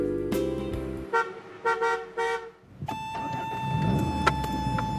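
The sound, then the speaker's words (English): A car pulls up and its horn sounds a few short honks, then the engine keeps rumbling steadily with a thin electronic tone over it, as the driver arrives to pick someone up. “Okay, I'll be outside waiting for your car.”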